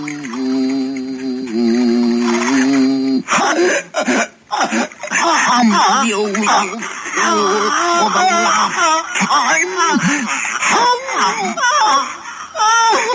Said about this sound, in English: Go on, …. Hum. Hum your song.